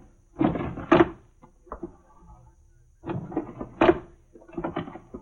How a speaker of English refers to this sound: I went to his desk and started to go through the drawers.